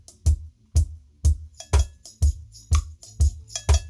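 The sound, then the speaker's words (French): A bell is struck in short metallic hits woven into a steady drum-machine beat, with heavy low thumps landing about twice a second and crisp higher accents between them. No voices. “cloche, tambourin, voilà toute seule, percussion.”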